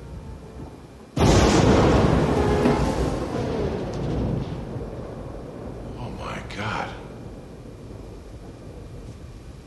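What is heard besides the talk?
rain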